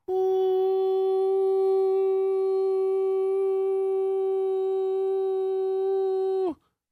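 A steady, piercing whistle-like tone, similar to a deer whistle, holds one unwavering pitch with bright overtones for about six seconds before cutting off abruptly. No one speaks.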